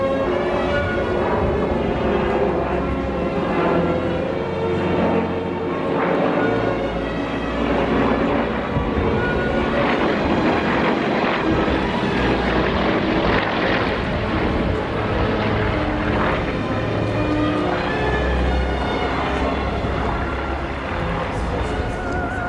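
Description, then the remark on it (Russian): Aircraft roar overhead at an air display in Ryazan, Russia, held on 23 June for the graduation of young officers at the Ryazan airborne school. A steady loud engine drone with harmonic whine and rumble holds throughout, swelling slightly in places, with no clear speech. “Рязань-то еще столица ВДВ, и по этому случаю проводились показательные выступления в небе.”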